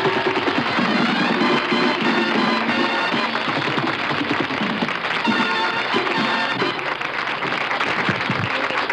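Steady, dense applause from a crowd welcoming two game-show contestants, a married couple, fills the whole stretch, a continuous crackle of many hands clapping at even loudness with a faint tonal murmur beneath it.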